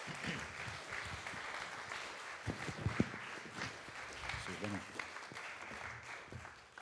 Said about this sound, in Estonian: Nii, teeme Jeesusele üks vägev aplaus, kõige vägev aplaus üldse, amen, halleluja, amen.